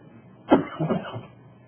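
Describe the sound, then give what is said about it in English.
A single sharp cough bursts out, followed by a couple of softer, rougher hacking coughs that trail off into quiet. “Praise the Lord, I'm not coughing anywhere near as much as I used to.”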